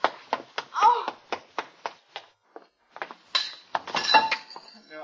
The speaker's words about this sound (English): Fine, I hit the pipes up above instead of the window.